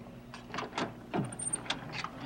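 door being opened

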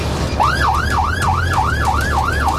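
fire truck siren

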